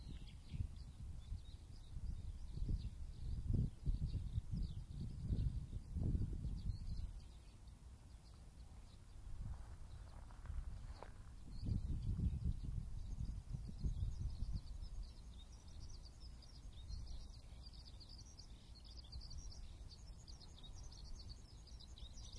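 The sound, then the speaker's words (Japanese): Eurasian skylarks sing a continuous, high warbling trill in the morning over a development site, repeatedly rising into the air and dropping back down, faint but steady throughout, with occasional low rumbling gusts of wind underneath. “これ、今、一番鳴いてるのヒバリですね。”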